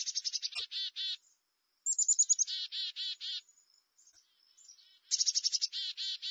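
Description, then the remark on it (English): A black-capped chickadee gives its chick-a-dee call three times: quick high introductory notes followed by a run of buzzy, repeated dee notes, clear with short pauses between bouts. “This first bird calls its own name.”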